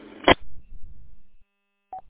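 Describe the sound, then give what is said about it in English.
A sharp click and a stretch of low rumbling, then a pause before one short, mid-pitched keypad beep, like a phone dialing tone, as a telephone is dialed for a quick phone call. “Well, I'm going to sign out for early and make a quick phone call to update my status, and then I will see you in a few.”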